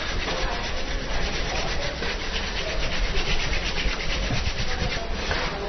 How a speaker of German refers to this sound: Habe ich da noch einen Griff, dann würde ich nur sagen, der ist zur Wärmeerzeugung und vor allem auch zur besseren Durchblutung, das sogenannte Sägen. Ja. Man reibt die zwei Handflächen.